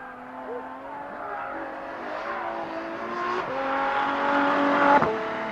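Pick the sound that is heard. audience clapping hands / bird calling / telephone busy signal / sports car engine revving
sports car engine revving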